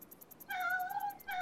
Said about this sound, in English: What are they, Bella? They're cats, Horsey. They're our friends. Hello, cats.